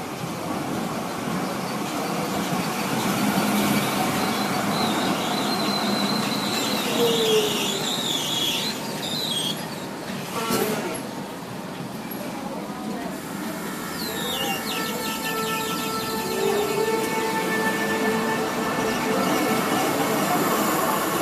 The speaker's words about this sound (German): Dort hören Sie ein Tramgeräusch, und zwar das da.